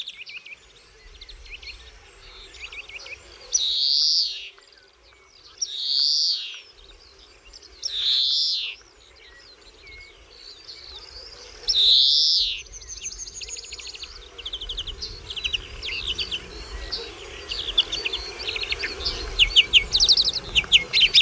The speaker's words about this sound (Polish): Bardzo piękne głosy, charakterystyczne. Tak się zastanawiam, czy często słyszane u państwa gdzieś tam w ogrodach, na granicy pól i lasu. No sikorki, wszelkie gatunki sikorek.